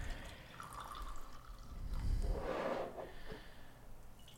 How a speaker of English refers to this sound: Well, as we always say, in a Coffee Roaster Warm-Up Sessions fashion, let's pour some batchy and let's sip on some coffee as we dive into this conversation.